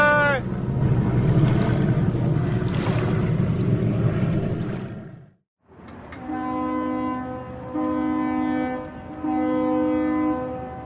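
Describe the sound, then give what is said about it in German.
A boat's engine rumbles steadily over rushing water as the boat arrives at the island of Lampedusa, Italy, then after a brief pause a deep ship horn sounds three long, loud blasts in a row. “Jetzt runter vom Boot.”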